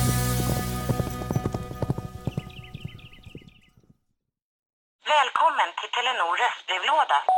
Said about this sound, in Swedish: Och hur låter den häst nu igen?